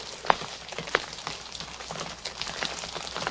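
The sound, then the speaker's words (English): Steady rain patters across a surface in a soft, continuous hiss, with two sharper drops or splashes standing out near the start. No voices are heard. “Because it's raining.”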